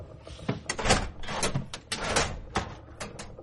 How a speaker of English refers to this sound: He looks down and pulls drawers open, then closes them.